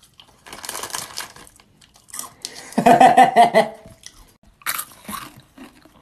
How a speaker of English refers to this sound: Can you chew with your mouth closed? Shit. No, this is how I like to chew my gum. You don't like it? You can move. It's so loud.